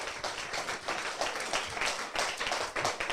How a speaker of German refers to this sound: dein Applaus.